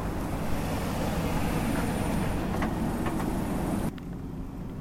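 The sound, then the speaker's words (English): The 4.3 V6 engine of a 2003 Chevy idles steadily, a continuous low rumble with a faint mechanical hum, dropping slightly in level near the end. “It's an 03 Chevy with a 4.3 V6 in it. The engine's idling just fine.”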